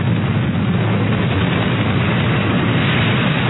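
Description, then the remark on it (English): A loud, steady helicopter roar with a heavy low rumble, droning on continuously without any break or impact, and no voices. “How come they crashed, but I'm still hearing the helicopter?”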